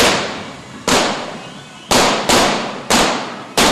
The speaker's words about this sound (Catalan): aquí veiem com amb la flama, amb el foc, veiem aquest drac de dos caps que fa aquesta, amb aquests dos caps, poder fer aquest soroll que escoltem del foc, que ara mateix està enfilant cap a l'Ajuntament de Valls, aquest drac, aquest element.